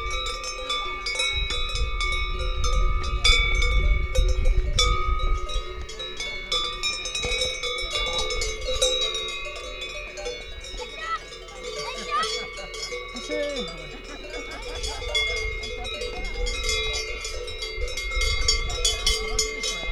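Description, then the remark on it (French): Sonnailles (herd bells) clank and jingle continuously in an irregular, overlapping jangle from a grazing herd, with occasional faint bleats mixed in and a low outdoor rumble underneath. “Elles ont toutes des sonnailles ?”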